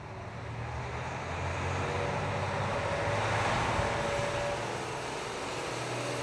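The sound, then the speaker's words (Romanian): A steady, continuous rumble of a car loaded with luggage moving along a road early in the morning toward the Sea of Galilee, with broad road and engine noise holding at a fairly even level throughout and no voices. “Și-au pregătit bagajele, le-au pus în mașină și dimineața s-au sculat foarte devreme pentru a prinde un minunat răsărit de soare.”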